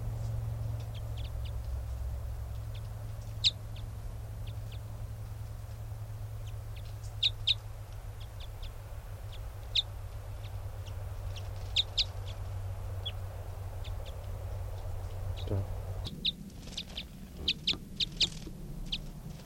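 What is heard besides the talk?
wild bird calling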